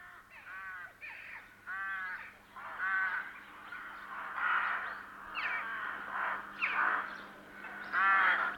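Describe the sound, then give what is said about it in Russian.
Rooks caw over and over in spring, a busy chorus of harsh, overlapping calls from several birds, with no voices present. “Грачи открыли весну.”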